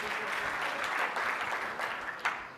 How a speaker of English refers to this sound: Clap that up because it's real shit.